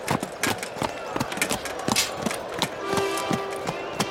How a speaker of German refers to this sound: Sir Thomas kommt gemächlich auf die Bahn geritten. Er sitzt etwas schief auf dem Pferd.